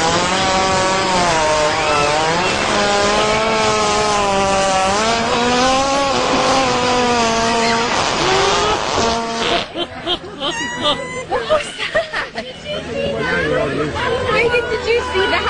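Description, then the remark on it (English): A hippo, filmed by people, farts in one long, buzzy, rasping blast whose pitch wavers up and down for about nine seconds, then breaks into loud, ragged sputtering bursts. “I know everybody wants to start their Black Friday off with a hippo fart.”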